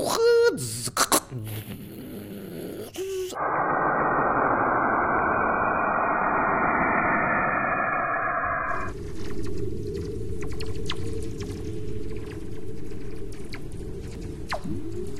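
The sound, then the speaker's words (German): Strange, alien-sounding tones from radio waves converted to sound for the Beethoven project: warbling whistles and chirps at first, then a steady dense rushing roar, giving way to crackling static with scattered clicks. “Die generelle Idee von dem Beethoven-Projekt ist, dass wir Radiowellen erstmal vertonen.”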